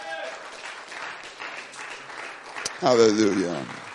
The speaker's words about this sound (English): Clap your hands unto the Lord in the name of. Come on, y'all can do better than that.